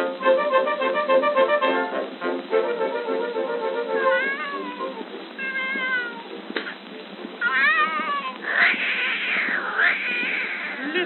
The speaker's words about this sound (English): My goodness, sister, what is that hideous noise? Why, that's Tiny, my beautiful little Maltese cat.